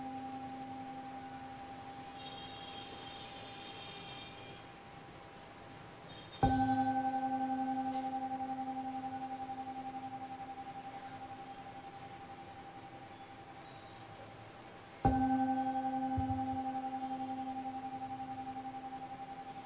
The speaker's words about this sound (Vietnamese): Bây giờ mời đại chúng nghe ba tiếng chuông để chúng ta kết thúc buổi pháp thoại ngày hôm nay.